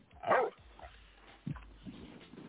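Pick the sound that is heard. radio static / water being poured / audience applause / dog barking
dog barking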